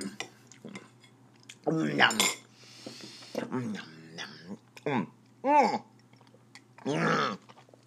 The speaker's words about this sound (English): I feel like I'm on Sesame Street the way I'm eating this food. It's not even getting down my throat.